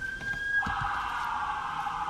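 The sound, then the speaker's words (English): An emergency vehicle siren passing outside, heard inside a room, sounds steadily at moderate volume, its tone dropping and broadening partway through, with no one talking over it. “Even now, the sounds of horror reverberate here in this room. Sirens never mean anything good.”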